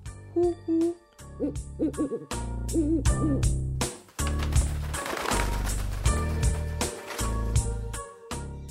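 Repeated owl-like hoots ring out in a steady rhythm over a busy musical backing, loud, with short pauses between bursts and no one speaking.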